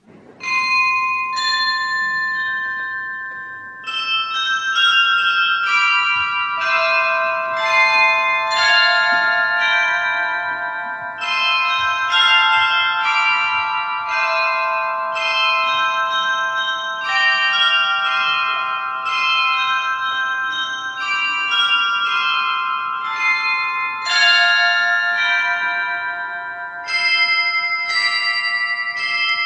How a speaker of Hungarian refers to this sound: Most pedig hallgassuk meg a harangjáték örvendeztető hangját.